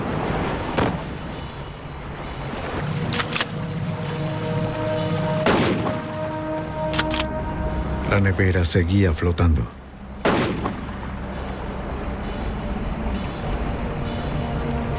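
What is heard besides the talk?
gunshots fired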